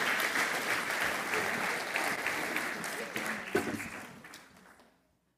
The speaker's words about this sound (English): And give one more round of applause for the kids who are going to finish us out today.